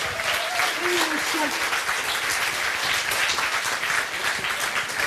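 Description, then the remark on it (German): An audience claps at the mention of the broadcaster RBB, a dense, continuous wash of applause, with a few faint voices and a brief vocal murmur audible underneath in the first couple of seconds. “Immer wenn RBB fällt, schon mal klatschen.”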